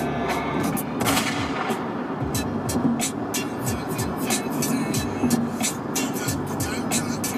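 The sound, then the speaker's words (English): A loud, sharp gunshot bang cracks out at the opening of a song, followed by a dense, rumbling backdrop punctuated by a steady series of crisp percussive hits. “I used to have this song set as my phone alarm, like when I would have to wake up in a hotel room or something, because that opening gunshot's really good.”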